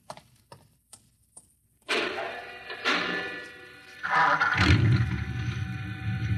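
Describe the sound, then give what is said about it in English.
A garage door mechanism starts with a few sharp, sparse clicks, then breaks into a loud, steady mechanical rattle and grind that swells twice and settles into a deeper rumble. “You start the mechanism to open the garage door, then jump onto the truck.”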